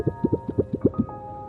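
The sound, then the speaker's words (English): A quick patter of about eight soft, wet-sounding taps imitating rain, stopping abruptly after a second, with a faint steady hum underneath and no voices. “What do you think of when it's raining?”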